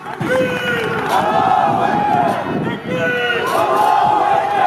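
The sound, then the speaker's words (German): A large crowd chants the Islamist battle cry "God is great" in unison, loud rising-and-falling shouted phrases repeated in waves, with a dense roar of many voices throughout. “Und der Schlachtruf der Islamisten ist zu hören.”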